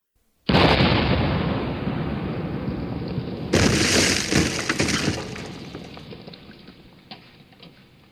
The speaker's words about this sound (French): À cet instant, le cuirassé lança son deuxième coup de canon et l'obus alla éclater entre les poteaux, faisant voler en éclats un autre morceau de la digue.